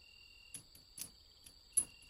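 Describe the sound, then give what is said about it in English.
A faint, steady high-pitched drone of crickets chirping outdoors in the countryside, broken by a few soft ticks and clicks; no one speaks. “There's crickets and birds.”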